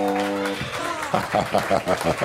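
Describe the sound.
A brief steady buzzer-like tone gives way to a burst of applause mixed with cheering voices, the clapping falling into a quick, rhythmic beat toward the end.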